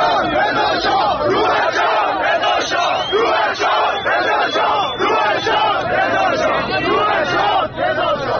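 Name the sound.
protest crowd chanting slogans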